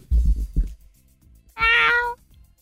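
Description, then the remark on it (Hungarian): A person imitates a cat, meowing into an app like Shazam, with one drawn-out meow lasting about half a second, preceded by a few short low vocal sounds and some faint background rustling. “Nem, hanem, hogy, tehát, hogy várj, odaadom, hogy közel nyávogjál.”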